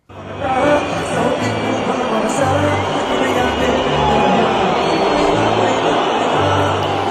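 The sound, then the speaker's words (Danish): A large concert crowd booing loudly and steadily at a singer who has come on stage, a dense roar of low, sustained boos with scattered jeers and critical shouts mixed in, holding at full volume throughout. “Med et øredøvende bu og kritiske tilråb, og det som man ikke kan høre i det her klip, det er også, at en stor mængde af publikum faktisk udvandrede fra koncertarenaen i protest.”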